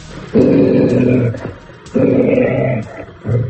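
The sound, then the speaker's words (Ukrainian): A steppe wolf, kept at the canine centre of the Luhansk regional police department after coming from the local zoo, growls deeply and loudly in two long, rumbling bursts separated by brief pauses, with a third growl starting at the end. No one speaks. “Степовий вовк Акела у кінологічному центрі обласного управління МВС вже близько року”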